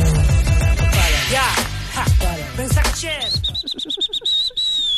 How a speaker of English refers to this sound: My whistle's not that great, eh?